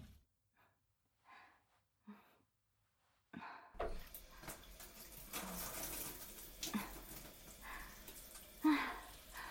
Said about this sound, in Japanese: セックス終わりのシャワーは気持ちいいだろ。汗も流れるし、酒だって抜ける。